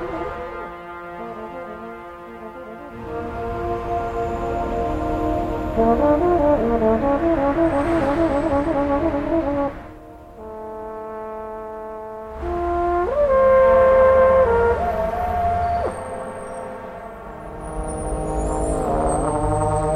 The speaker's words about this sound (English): the NoMa Metro Station to the Rhode Island Avenue Metro Station and all along the Met Branch Trail, where he was kind of playing against traffic and cars and train sounds and kind of riffing off what he heard. So this is an example of that piece.